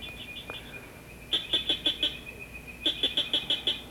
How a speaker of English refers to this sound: Okay, northern cricket frog. So more of a metallic sound, very crisp and clear. Again, slow, fast, slow.